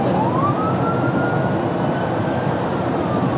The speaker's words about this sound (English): Cue the police siren.